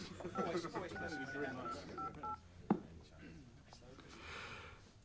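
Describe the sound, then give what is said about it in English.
A telephone number is keyed in to ring Ed: a quick string of short, steady touch-tone beeps, followed by a sharp click and a quieter stretch of faint hiss. “Oh, ring him now.”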